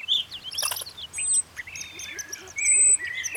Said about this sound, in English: Or some chipmunks in the trees?